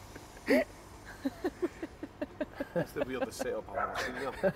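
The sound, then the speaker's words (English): A dog, walked in by a man, gives one sharp bark, then a quick string of high, excited yips in an uneven rhythm, growing busier toward the end, moderately loud. “I'm pretty sure a guy just walked his dog in here, let it do a pish and then walked back out.”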